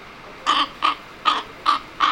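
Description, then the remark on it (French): A crow caws five times in a steady rhythm, each harsh, raspy call short and fairly loud, separated by brief pauses with faint background hiss. “Croyez-moi, j'ai beau être sombre et émettre des cris peu harmonieux pour vous.”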